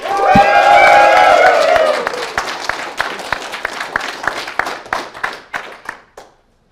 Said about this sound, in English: And guys, we need to be louder than them for the applause.